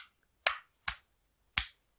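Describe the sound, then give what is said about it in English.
A hand slaps a dog's feet three times in an uneven rhythm, each a sharp, loud smack that fades quickly, with quiet between and no voices. “Kind of just sounds like I'm pounding on his feet. Boy. Like slapping his feet.”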